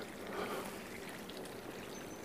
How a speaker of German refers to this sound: Geplätscher.